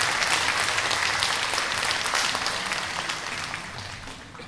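A large audience applauds the Moria Ensemble Orchestra, a dense, even wash of many clapping hands that holds strong and then gradually tapers off toward the end.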